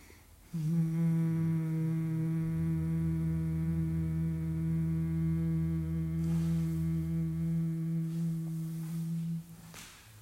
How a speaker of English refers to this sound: And as you breathe out, you're just going to let out this sort of humming sound.